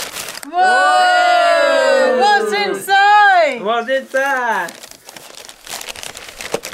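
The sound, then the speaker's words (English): Crinkling and rustling of wrapping paper around a tissue box, the prize in a game of pass the parcel, coming after a few seconds of loud, sustained gliding voices or tones, then continuing as a steady crackle. “What is that? Oh, it's a tissue box.”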